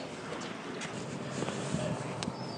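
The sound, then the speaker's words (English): A steady, broad rumble of a large ferry's engines as it is about to dock, mixed with gusty wind noise buffeting the microphone, with a few faint clanks over the constant wash of sound, on a sunny day. “Well, the ferry boat you might hear in the background, the Argyle, is just about to dock once again.”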